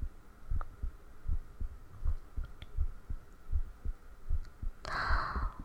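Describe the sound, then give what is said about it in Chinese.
A quick, steady heartbeat thumps in low, muffled double beats, repeating throughout, with a brief rustling hiss near the end. “我紧张的手都出汗，心跳就特别特别快，咚咚咚咚咚咚的。”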